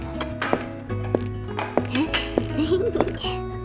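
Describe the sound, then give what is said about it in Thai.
Dishes clink together as a mother and her young child wash them after a meal: five or so sharp, bright knocks spaced at a fairly even pace, over a steady background with a voice murmuring partway through. “ดีจ้ะเรามาล้างจานกันเถอะนะจ๊ะ”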